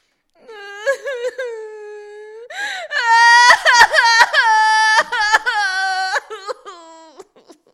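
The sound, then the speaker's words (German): A child cries and sobs, left locked in a room, with high, wavering wails rising and falling, broken by short gasping breaths between sobs, loud and alone without any talking. “Bohnenstange blieb wieder weinend im eingeschlossenen Raum zurück.”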